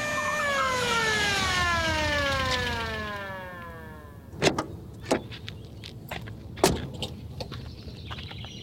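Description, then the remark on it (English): A police car siren wails, its pitch sliding steadily downward as it winds down over a few seconds, followed by several sharp, sudden knocks and clunks. “Yep, there he is now, taking an unexpected ride in the back of a police car.”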